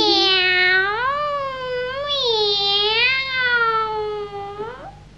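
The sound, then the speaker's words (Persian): A single long, drawn-out cat meow, loud, wavering up and down in pitch for about five seconds before cutting off, with no talking around it. “به راست میگه پیشی ناز نازی.”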